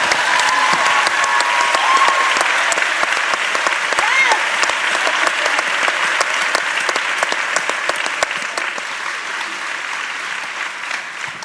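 Sustained applause from an audience, a dense, steady wash of many hands clapping at once, loud throughout and easing only slightly toward the end, with a few faint voices mixed in.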